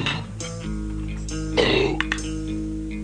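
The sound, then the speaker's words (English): A dog retches on a bone: one short, harsh, guttural heave that rises out of a steady low hum, followed by a couple of faint clicks. “Oh, he's just yakking on a bone.”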